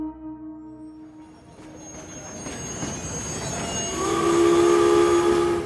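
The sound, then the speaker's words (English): A train rolls into downtown Philadelphia with a low rumble that steadily builds, then sharp, high metallic wheel squeals ring out loud near the end. No one speaks. “You step off a train in downtown Philadelphia, careful to keep your collar up and your hat pulled low over your eyes.”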